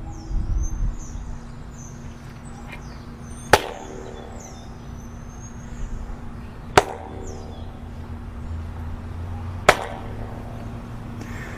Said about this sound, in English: Quite clearly distinguish the echoes there.